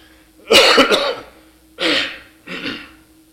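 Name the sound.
coughing and throat clearing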